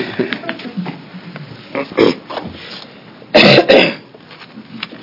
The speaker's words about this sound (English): And I apologize for my coughing.